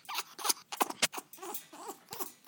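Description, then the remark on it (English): A pet bird named Lily makes her affectionate baby noise: a string of soft, squeaky chirps and scratchy clicks in an uneven rhythm, with brief warbling high notes and no voices. “Yes, that's her baby noise. It's her affectionate noise.”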